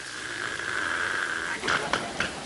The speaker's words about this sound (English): Dog in the hallway coughing up a chicken bone.